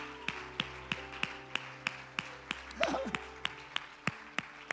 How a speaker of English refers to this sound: Would you clap your hands to the Lord? If you love your grandpa, your grandma, clap your hands to the Lord and thank God for him.